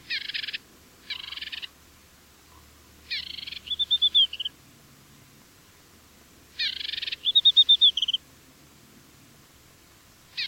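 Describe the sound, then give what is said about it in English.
An African desert warbler's call repeats in bursts: short buzzy rattling notes followed by a quick run of high, clear chirps, heard twice against a quiet background. “The African desert warbler lives in just the northwestern part of the Sahara.”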